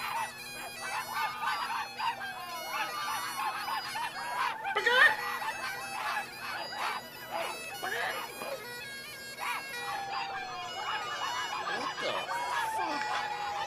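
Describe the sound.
A crowd of people yelps and barks like dogs at another group of people, many overlapping voices imitating animal cries in a continuous, rowdy din that swells briefly near the middle.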